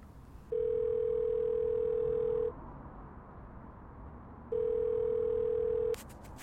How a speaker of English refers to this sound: It's ringing.